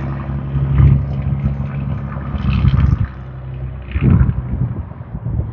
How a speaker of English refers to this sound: However, yes, very rude, noisy truck. I am at the back gate.